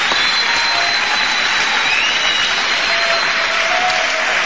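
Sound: audience applauding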